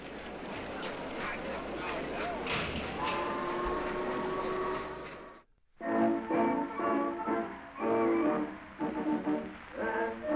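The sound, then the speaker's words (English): A steam transport train departs, rumbling and clattering steadily with hissing noise and tonal whines; it is one of 3 transport trains taking Regiment List of the 6th Bavarian Reserve Regiment to Flanders on October 21st. After a brief drop-out, a voice talks over the fainter rolling sound of the train. “On October the 21st, Regiment List, a part of the 6th Bavarian Reserve Regiment, was loaded onto 3 transport trains and set off for Flanders.”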